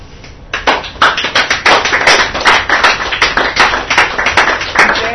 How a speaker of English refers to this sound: I don't feel like you have to applaud after every poem. It's okay. But thank you. Very kind as well.